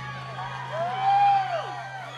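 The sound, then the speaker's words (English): A large San Diego audience packed into a small space murmurs and cheers, with one voice letting out a long rising-and-falling whoop over the crowd noise, all above a steady low hum. “This is a good crowd.”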